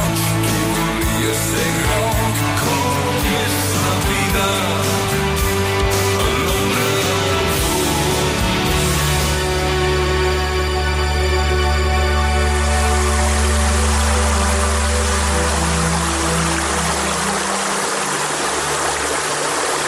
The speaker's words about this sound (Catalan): Aquest és el so relaxant de l'aigua que flueix.